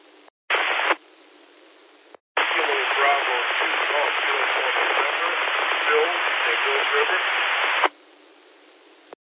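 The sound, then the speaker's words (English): A weak amateur radio net check-in transmission: a faint, barely intelligible voice buried under loud, steady static hiss, with a short burst of noise first and then a long stretch of crackling transmission. “You were real weak. You had a lot of white noise on.”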